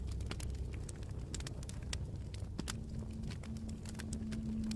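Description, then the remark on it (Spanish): Steady, gentle crackling of firewood logs burning in a bonfire at a forest campsite at night, with scattered sharp pops and snaps over a low, continuous rumble, close and moderately quiet, with a faint hum joining partway through. “Hay una hoguera muy cerca de ti y escuchas el ligero crepitar de los troncos de leña quemándose.”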